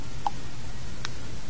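Two crisp, light clock ticks land about a second apart over a low, steady background rumble, with no voices present.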